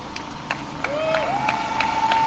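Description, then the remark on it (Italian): Audience applause over a dense wash of crowd noise, with steady rhythmic claps roughly three per second and a thin, high whistling tone that rises and then holds. “Questa è la cosa importante, per cui secondo me dobbiamo farci un applauso.”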